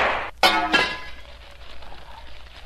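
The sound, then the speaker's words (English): A lamp shatters: a sharp crash with bright, ringing glassy tones, then a second smaller smash, trailing off into faint tinkling and low rustling. “I've broken the lamp, Shadow.”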